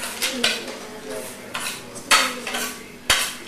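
A spoon clinks against a dish several times at an irregular pace, with sharp, bright taps between softer scraping and stirring sounds.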